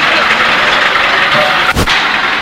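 A road roller reversing during road construction grinds with a loud, steady mechanical roar, broken by one sharp, heavy thud near the end.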